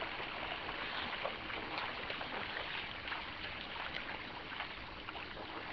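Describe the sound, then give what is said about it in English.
A seine net is pulled steadily through shallow water to catch fish, producing a continuous rush and swish of churning water with no pauses and no voices. “As we pull the net along, it's important that we keep the net open.”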